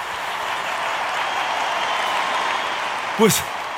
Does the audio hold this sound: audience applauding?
yes